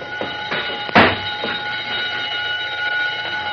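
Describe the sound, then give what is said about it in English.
A burglar alarm, set off by a touch to its wire along the bottom of a door, rings steadily and continuously, a loud, sustained metallic tone filling the whole stretch, with a brief sharp knock early on and no voices. “The burglar alarm wire is along the bottom of the door. A touch will set the alarm off, and who can prove a mouse didn't do it?”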